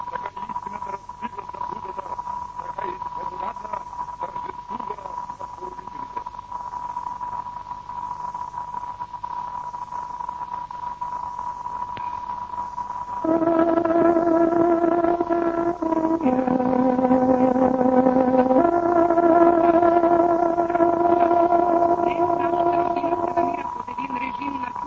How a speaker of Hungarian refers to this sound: Kedves hallgatóim, pontos időjelzést adunk. Tárogatónk 22 órát jelez.